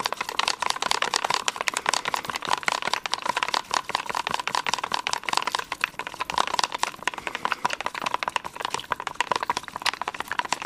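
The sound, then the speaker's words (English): Water is stirred into a sample mixture in a cup to prepare a fentanyl test-strip check, producing a steady, rapid stream of clicking and scraping taps that continues evenly for about ten seconds, with no voices. “Okay, now I'm going to add the water. I'm going to stir it all up.”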